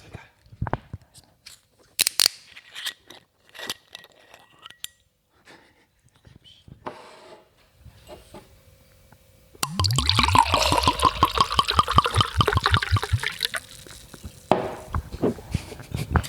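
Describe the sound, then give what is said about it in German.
Scraping and clicking as a wine bottle is opened, followed by a loud, steady glugging pour that lasts several seconds before tapering into soft trickles. “Also ich mache jetzt mal den Wein auf.”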